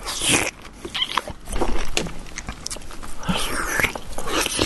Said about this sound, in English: So slurpy, alright? That's the slurpiest slurp I've ever fucking heard. I can't even talk properly anymore. Slurpiest slurp. It's eating juicy fruit, obviously. Everyone knew that.